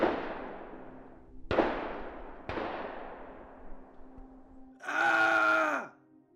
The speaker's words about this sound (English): As they were heading back towards where I sat, with my back stiff as a board and my ribs throbbing, gunshots echoed from somewhere ahead, before a blood-curdling scream followed only seconds later.